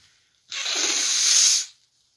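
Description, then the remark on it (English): A single loud, sustained nose blow by someone a little under the weather, away from the mic: a breathy hissing burst lasting about a second with a rough, slightly fluttering texture, alone with no talking. “By the way, ignore me blowing my nose, even though you can't ignore me blowing my nose, because you can hear it directly in your nostril.”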